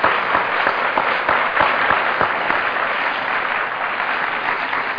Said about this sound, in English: But I'd like to take just a minute and ask you, if you're sitting out there and you've enjoyed this weekend, would you join me in giving the committee a real big round of applause? They've done a great job.